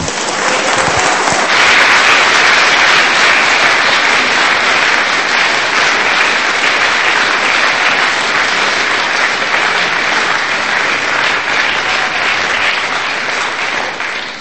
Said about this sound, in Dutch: aan het applaus te merken, heeft de gemeente het ook erg gewaardeerd wat jij hebt gedaan.